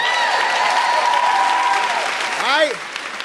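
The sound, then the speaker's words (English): A crowd applauds steadily for about three seconds, dense clapping mixed with cheering voices, and a loud whooping shout rises and falls near the end. “Let's give ourselves a big round of applause for being here tonight.”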